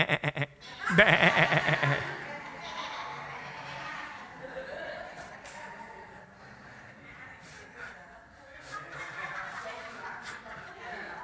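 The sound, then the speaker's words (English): An audience, told during a sermon on John 10:27 to turn to their neighbor and bleat, loudly imitates sheep, a wavering chorus of bleating 'baa' sounds near the start, fading into scattered chuckles and murmuring chatter. “Turn to your neighbor and go, bah,”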